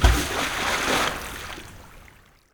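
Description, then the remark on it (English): A box with a person inside falls from the air and plunges into the sea with one loud splash, followed by a couple of seconds of churning, sloshing water that fades away. No voices. “Then the box starts to fall. I'm frightened. Soon, the box falls into the sea.”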